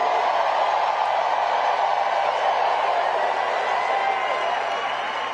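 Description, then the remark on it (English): A large crowd roars and cheers continuously at a campaign rally in Detroit, Michigan, the largest crowd of the campaign, a dense, loud wash of voices that holds steady for several seconds without letting up. “And then on Wednesday, the largest crowd of the campaign showed up in Detroit, Michigan.”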